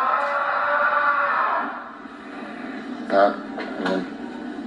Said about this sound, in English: If you didn't hear it, Cal Raleigh yelling in the background, just a frustrated scream from the guy who should be the American League MVP.